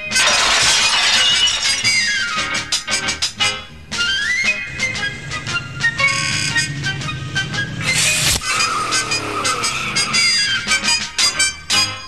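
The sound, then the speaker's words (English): Glass shatters loudly and repeatedly, crash after crash of breaking panes with bright tinkling shards scattering, continuous across the whole stretch with no talking. “Hey, I've got a crack up, man.”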